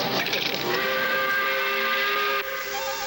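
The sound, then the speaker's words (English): A loud, sustained factory steam whistle sounds the 5 o'clock quitting time, blasting continuously with layered tonal pitches over a rushing hiss, holding steady for about three seconds before dipping slightly near the end. “Hey, that's the 5 o'clock whistle.”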